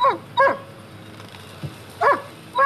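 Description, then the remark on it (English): A dog barks at a shed in short, sharp bursts, four clear yaps spaced in two pairs, loud against a quiet background with no talking. “He's barking at the shed.”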